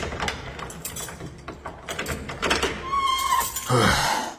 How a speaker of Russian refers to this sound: И скрипела старая лестница, как будто ее мучили.